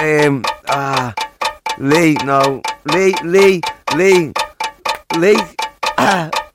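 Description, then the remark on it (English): A voice mimics a ticking clock countdown, putting a quiz contestant on the clock, with steady, rhythmic tick-tock syllables about twice a second, loud, with no real mechanical clicks. “Right, I've got to put you on the clock.”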